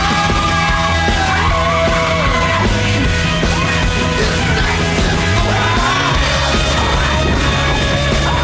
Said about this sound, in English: Like, their sound effects editing is just so consistently incredible. Oh, just yeah. Her screaming while on fire for the longest time.